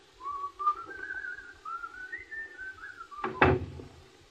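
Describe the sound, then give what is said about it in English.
Someone whistles a wandering tune, then a door bumps shut with a single solid thud near the end as an elderly woman and her companion leave, while the whistling fades out. “Come on, dear. Through the door.”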